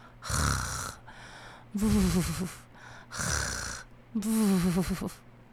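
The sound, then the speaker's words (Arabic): A voice imitates a polecat character's loud snoring in a story: four drawn-out rasping breaths alternating between throaty inhales and buzzing, rumbling exhales, steady in rhythm. “ثم أصدر الضربان صوت شخير،”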